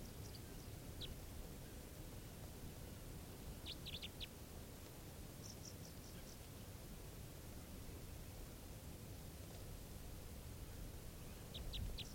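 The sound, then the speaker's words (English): Short bursts of a very low-pitched bird call, a type 3 variant, a few quick notes at a time, come in several scattered clusters over a steady background hiss, fairly faint, with no one talking. “Very low pitch type 3 variant. Stop. Recording, the bird's calling now.”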